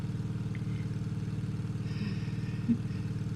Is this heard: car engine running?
yes